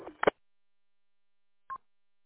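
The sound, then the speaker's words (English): Short electronic radio beeps, a double beep showing the radio's encryption is turned off: a quick pair of tones at the start, then a single brief beep after a silent pause. No one speaks. “That's what the double mean beep means. You got your encryption turned off.”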